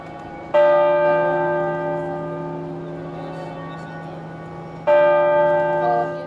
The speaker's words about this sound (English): At noon, bells tolled out across Sydney, one strike for every year of the Queen's life.